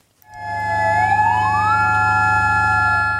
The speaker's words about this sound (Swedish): 9 minuter före 1 på eftermiddagen, det klockslag som jordbävningen inträffade, ljöd sirener i Mandalay för att markera starten på en tyst minut.